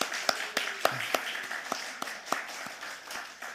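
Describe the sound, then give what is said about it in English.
A church audience applauds steadily throughout for released deacons and elders, with sharp individual claps standing out over a softer wash of many hands, moderate in volume, with no talking. “Would you please give them a round of applause at this time?”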